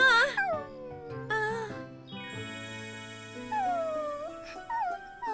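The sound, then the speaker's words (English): A puppy whimpers and howls in several high, wavering cries that rise and fall, fairly loud, with steady low tones underneath. “What a puppy. It's so cute.”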